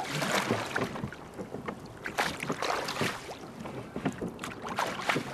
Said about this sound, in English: If we're not all talking, which some do, some don't, you can hear the oars against the water, and it's that nice sort of lap-lap sound.